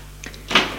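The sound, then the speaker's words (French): A door at a château opens at night with a short creak and scrape as someone enters after a knock, followed by a solid thump as it swings or settles, all within under a second. “Et entre Georges.”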